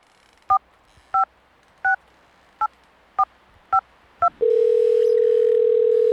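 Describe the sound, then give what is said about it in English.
Seven crisp keypad beeps punch out a phone number to the caller's uncle at an even pace, then a steady electronic ringing tone begins and holds, as if waiting for the other end to pick up. No voices. “Answer the phone. Pick up the phone.”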